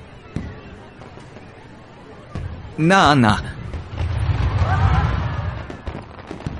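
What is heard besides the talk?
fireworks exploding nearby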